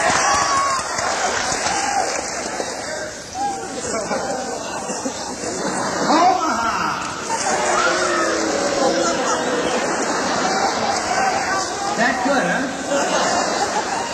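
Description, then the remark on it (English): A large crowd at the Holiday Inn in Secaucus, New Jersey roars and cheers continuously, with a dense wash of voices, shouts and some clapping sustained at a steady, loud level throughout. “You know, you can get people to applaud any place in the world.”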